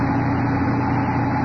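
A steady mechanical buzz from a surgical eye flap maker as the doctor makes a flap in a patient's eye, a constant motor-like drone holding an even pitch and loudness for the whole moment, with no voices over it.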